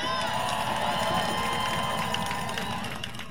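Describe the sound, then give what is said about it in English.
A dense, continuous roar of a rally crowd of thousands of community members, teachers, students and kids outdoors in Portland, heading towards the Burnside Bridge, many voices blending into a steady wash of cheering and chatter that holds at a fairly loud level throughout. “I'm looking back at a crowd of thousands of community members, teachers, students, kids, heading towards the Burnside Drip Bridge.”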